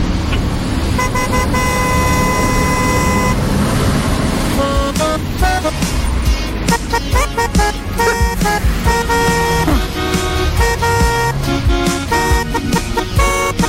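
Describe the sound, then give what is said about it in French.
A well-known pop hit is honked out on car horns, loud, with brassy tones tracing the melody in quick rhythmic bursts and no talking. “qui est venu avec deux tubes du …, mais au klaxon.”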